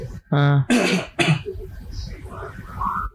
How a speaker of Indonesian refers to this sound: Batuk dulu.